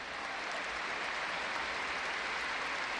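A stadium crowd applauds steadily, a dense, even wash of clapping and cheering noise that holds at a constant loudness for a few seconds with no voices standing out, as Antoine Griezmann is substituted off during a football match against Athletic Club.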